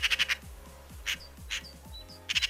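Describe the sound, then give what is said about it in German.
A Eurasian magpie chatters in harsh, rattling bursts: a rapid four-note clatter, two single raspy calls, then another quick rattle, with faint chirps from other birds in between. “Also von wegen, die Elstern klauen glänzende Gegenstände oder so. Nein, keine Diebin, die das einzige Vögelchen, das tatsächlich sich im Spiegel selbst erkennt.”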